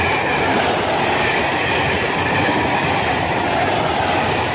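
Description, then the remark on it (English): A train rumbles steadily past at a railway siding, a loud, continuous roar of wheels on track with faint rhythmic clatter throughout. “When you hear a train coming, close your eyes.”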